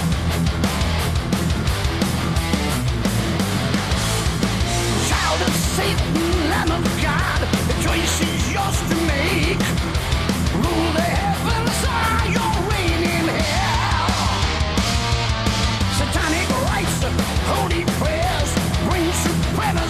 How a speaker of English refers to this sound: The scream at the beginning of this song is absolutely insane.